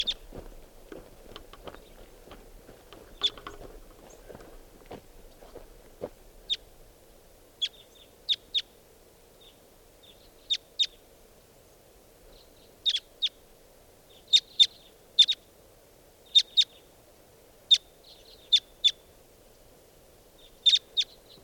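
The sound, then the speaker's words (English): Two wild birds sitting together in a treetop give short, sharp, high-pitched calls after a playback of their call, singly and in quick pairs or triplets, repeating irregularly over a soft steady low hum, with a little rustling at the start. “I just did a playback of that call and got the birds closer, and I'm going to try to record again.”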